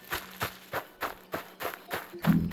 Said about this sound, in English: Running.